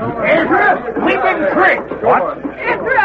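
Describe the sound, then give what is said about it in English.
A crowd of people chattering all at once, a dense, steady babble of overlapping voices with no single speaker standing out, holding at an even, fairly loud level throughout. “And look at the crowd.”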